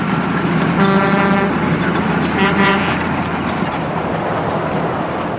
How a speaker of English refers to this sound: A truck passes at high speed, leaving a wake of dust clouding my vision.